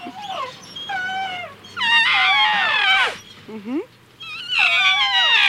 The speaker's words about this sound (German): Ach, hört ihr das an? Der Elefant, der flötet auch. Oh, ja süß, der kleine Elefant, der schreit sicher nach seiner Mutter.